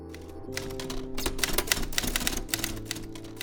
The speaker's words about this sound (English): She uses a typewriter for most of her work.